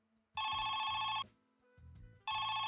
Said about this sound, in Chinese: 电话声响了起来，我浑身一颤，拖着脚步走到电话旁接了起来。